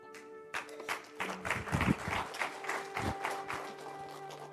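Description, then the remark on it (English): A church audience applauds the pastor after a sermon, many hands clapping in a dense, steady patter that starts abruptly and carries on for several seconds, with a faint sustained tone humming underneath and no talking. “Let's give Pastor Ike one more round of applause as always.”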